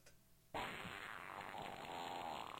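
After a brief near-silence, a loud, drawn-out fart sound effect erupts and sustains for a couple of seconds, raspy and sputtering up close, with no voices.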